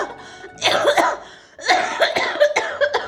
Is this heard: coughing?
yes